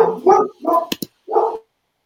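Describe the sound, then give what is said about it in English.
A dog named Frankenstein barks in a short series of mid-pitched woofs, three or four loud barks with a couple of sharp clicks in between, then quiet. “Frankenstein, that's her dog.”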